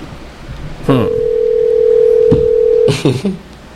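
A telephone ringback tone hums steadily for about two seconds on an outgoing call from Radio Valencia to Kitchen Number 2 across the street, bracketed by line clicks and a brief muffled burst at the end, clear.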